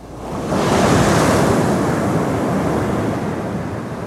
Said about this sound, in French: C'est la respiration du plongeur, exactement.